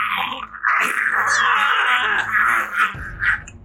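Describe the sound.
A voice imitates a giant bug's scream: a sustained, harsh, rasping shriek held for about three seconds, loud and strained, ending in a couple of sputtering bursts.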